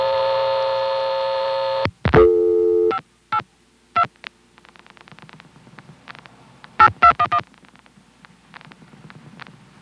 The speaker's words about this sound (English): So now here's a call to 582 Spotsylvania by way of the Fredericksburg office, which is acting as a tandem. This call begins with lockout, and then we flash to get a dial tone and dial the number.